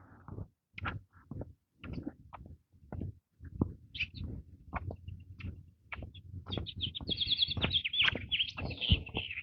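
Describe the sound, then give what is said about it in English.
A robin sings outdoors in the morning, its high chirping phrases growing busier toward the end, over repeated tapping and rustling noises. “Is that a robin? I think so.”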